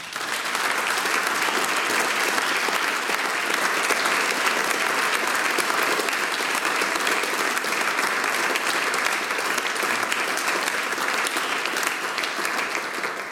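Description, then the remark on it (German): Steady, dense audience applause for a performer who provided music and singing, holding at an even loudness for about thirteen seconds, a broad crackle of many hands clapping with no voices standing out. “Euer Applaus!”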